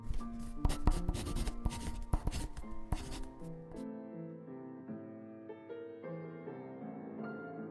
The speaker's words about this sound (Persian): مردم نیشابور با شوق سخنان امام را می‌نوشتند. بعضی‌ها می‌گویند هزاران قلم همزمان روی کاغذ حرکت می‌کرد.